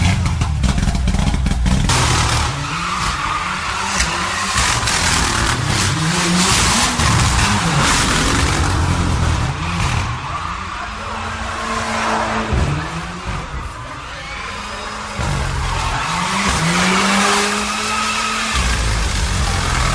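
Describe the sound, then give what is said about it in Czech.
A race car driven by European champion Dušan Borković roars through a lap, revving up and down in repeated sweeping pitch rises as it shifts gears, with tires squealing and skidding through the corners, loud throughout. “Bio ovo prvak Evrope Dušan Borković sa kojim ćemo se upravo sada provozati jedan krug.”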